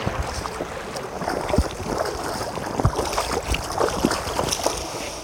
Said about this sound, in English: We get to a wide, shallow river, and the only way across is through. You are not kidding about the river crossing.